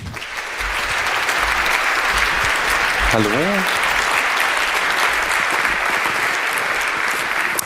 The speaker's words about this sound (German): da würde ich euch bitten, eine Runde Applaus zu spendieren und … willkommen zu heißen